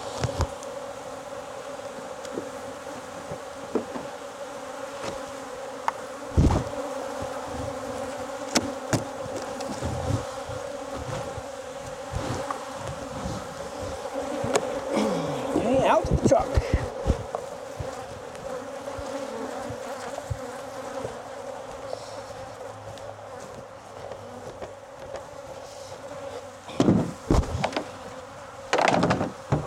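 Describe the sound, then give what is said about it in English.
A dense, steady drone of many honeybees buzzing for the whole stretch, punctuated by occasional sharp clicks and thumps of hive equipment being handled. No one speaks. “A lot of bees, but all right.”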